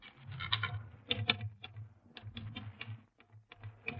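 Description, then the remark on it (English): Rapid, uneven clacking of manual typewriter keys, a dense run of sharp mechanical strikes with brief pauses, with a low hum underneath and no voices. “Now, let me hit that typewriter for a minute.”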